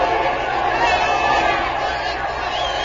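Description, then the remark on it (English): A big stadium crowd at a tied baseball game roars loudly and continuously as a batter walks to first base on ball four and the next batter comes up. A dense wash of cheering and shouting voices holds steady for a few seconds without letting up. “The crowd's going wild.”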